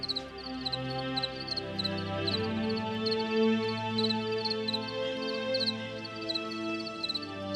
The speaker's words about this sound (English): If I wake up in the middle of the night, I can like tune into what's happening with the crickets.